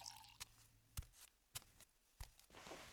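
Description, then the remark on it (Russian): A woman sips water from a glass, heard as four soft, wet gulps and clicks spaced about half a second apart, quiet against a faint room hum, with no talking. “будьте любезны, выпейте воды.”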